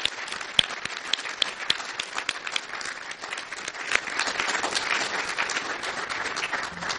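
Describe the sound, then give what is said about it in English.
Sustained audience applause recognizing the accomplishments and careers of two doctors, many hands clapping in a dense, crackling wash with a few sharper individual claps standing out, steady and fairly loud throughout with no voices. “Please join me in a special round of applause to recognize their accomplishments and their unparalleled careers.”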